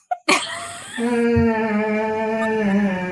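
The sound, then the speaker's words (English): A dog snores loudly: a sharp snort, then one long, drawn-out droning snore with a steady buzzing tone that sags slightly in pitch as it continues. “Also, here is a dog that snores really loud.”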